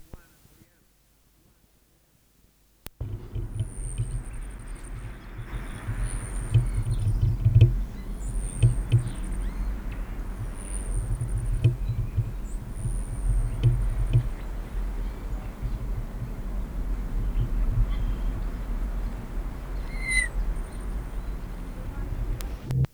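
A Selasphorus hummingbird's display, one of three by the same bird around 1 p.m., in a Nicotiana tomentosa patch with a female Selasphorus present: a series of thin, very high-pitched buzzy chirps repeated at an irregular pace, fairly faint over a steady low rumbling background.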